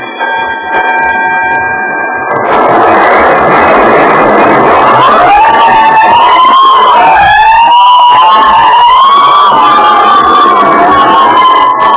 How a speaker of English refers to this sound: Every time I hear fire engines at night, I think of Harrison Murdoch and the Santilli case. That's how the Santilli case started, with a fire at the Santilli Murdoch paint factory.